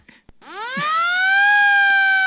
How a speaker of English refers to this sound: A siren sound effect fills the room